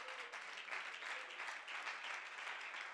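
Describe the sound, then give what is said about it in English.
A church audience claps hands to the Lord during a sermon in a dense, continuous burst of applause lasting the whole stretch, steady and fairly loud with no voices standing out. “Let's all clap our hands to the Lord.”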